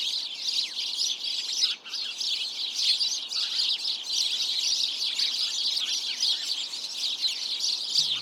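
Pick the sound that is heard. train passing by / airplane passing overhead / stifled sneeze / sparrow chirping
sparrow chirping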